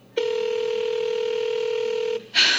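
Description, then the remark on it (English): A phone call goes unanswered: one steady electronic ringback tone holds for about two seconds, clear, then cuts off into a brief burst of hissy noise. No one speaks. “I really wish Jasmine would answer her phone.”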